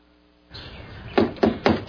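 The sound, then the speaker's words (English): Four heavy, evenly spaced, loud thuds of a grandfather pounding on a wooden door in a house, demanding it be opened, over a faint hiss, with no voices. “Open this door! Open it, I say!”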